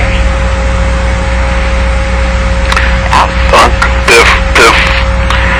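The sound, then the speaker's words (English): Steady, loud mechanical drone of approaching helicopters, with a deep humming throb and a thin whine running through it, joined in the second half by a few brief rough bursts of noise. “Helicopters are approaching.”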